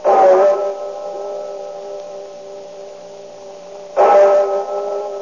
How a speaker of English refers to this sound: But upon reaching England, we set our blimp down lightly opposite historic Westminster Abbey, but we paused to listen to the famous tones of Big Ben as it tolls the hour.